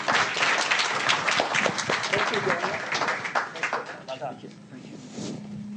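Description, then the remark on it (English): An audience at a Brookings event applauds with dense, steady clapping that fills the whole clip, thinning slightly toward the end as a low hum lingers underneath. “So please, let's have a nice round of applause for this.”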